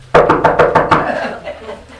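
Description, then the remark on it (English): A rapid burst of about six sharp knocks on a bathroom door in an old farmhouse, loud, evenly spaced in quick succession before trailing off into quiet. “And I heard this real fast knock. Not just a knock.”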